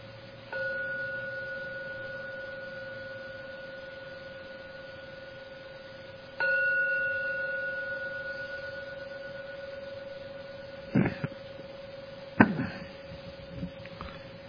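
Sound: meditation gong ringing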